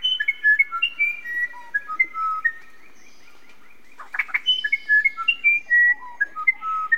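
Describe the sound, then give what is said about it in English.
A musician wren of South America sings a run of clear, flute-like whistled notes at varied pitches, phrase after phrase with brief pauses, fairly loud, with a short rustling burst midway and no voices. “Among all the wrens, which is the most legendary singer? It's a tough decision, but many would choose South America's musician wren.”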